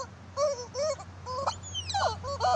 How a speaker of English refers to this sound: It's just how long it goes. I would have to shoot this horse. I would be like, I gotta shoot this horse. If it doesn't stop making this noise.